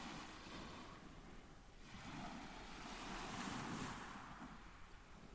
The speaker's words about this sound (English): These waves were recorded on Deal Beach in area Dover, in front of a faint, shimmering, pale pink sunrise in the wintry haze. The first sunrise of the year, on the 1st of January, 2021.